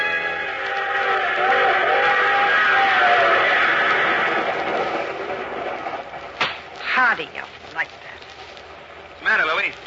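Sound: train running on rails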